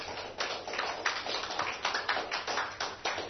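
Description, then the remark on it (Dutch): A crowd claps together for a Bible passage just read aloud, in dense, steady applause, many overlapping hand claps with slight rhythmic surges, sustained for a few seconds without anyone speaking. “Kun je even in je handen klappen voor dat wonderlijke woord.”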